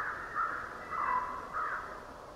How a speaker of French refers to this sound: Un autre paysage de son, le parc d'Algonquin dans l'Ontario, au sud-est du Canada. C'est en 2007, à la fin du mois de mars, à l'aube. Un concert printanier de chants d'oiseaux. Une corneille d'Amérique.